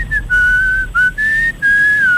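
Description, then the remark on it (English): A man whistles a slow, breathy tune recreating the sound of a musician's pan flute on Triple M radio in Newcastle, several sustained notes with short gaps between phrases, clear with no talking. “You will believe a man can whistle.”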